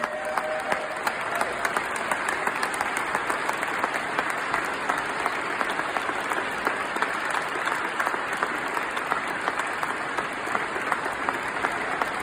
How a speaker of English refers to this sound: He received a standing ovation before he began, and you'll hear that too, but the cheering really intensified once he finished.